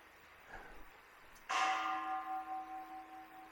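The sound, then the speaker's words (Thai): A temple bell is struck once with a wooden striker, giving a sharp attack followed by a long, shimmering hum that pulses gently as it slowly fades. It rings alone. “เนี่ยตอนที่เสียงระฆังเสียงไม้ตีระฆังกระทบนะเท่าเทียบกับวิตกตอนที่มันคลางเนี่ยเทียบกับวิจาร”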